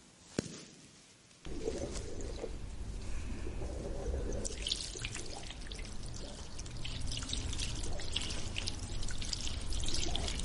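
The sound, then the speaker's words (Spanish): After a brief quiet moment, a tap is turned on in a hair salon and water runs steadily, a continuous splashing rush that keeps going without pause to the end, with no voices. “cierra el grifo, por favor.”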